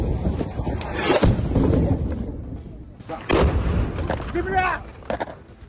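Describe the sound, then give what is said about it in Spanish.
Russian army artillery and mortar fire from across the Dnieper River, aimed at people fleeing: two heavy, booming blasts about two seconds apart over a constant low rumble, with voices calling out faintly in between. “Más impresionante aún es ver cómo desde el otro lado del río Dnieper, el ejército ruso sigue atacando a quienes huyen con artillería y mortero.”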